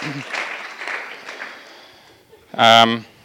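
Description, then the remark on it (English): A crowd claps for everyone who came back from Burundi in the last week, in a dense, steady patter that gradually thins and fades over a couple of seconds, then a single loud voice cuts in at the end. “Let's give a clap.”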